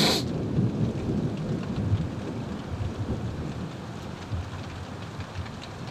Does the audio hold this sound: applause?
no